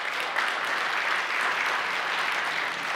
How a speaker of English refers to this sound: Are you applauding for the Chipotle